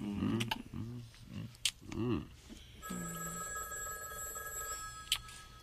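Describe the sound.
A telephone bell rings steadily for a couple of seconds, a bright sustained trill, after a burst of animated voices and some rustling.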